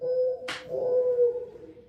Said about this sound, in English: This is the morning dove.